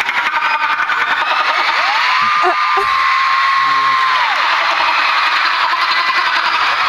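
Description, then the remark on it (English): Live on stage at a concert, a man imitates a dolphin with a few quick clicks and a thin, high squeal that rises, holds steady for about two seconds, then drops away, all over a constant loud crowd roar. “He can do an impression of a dolphin.”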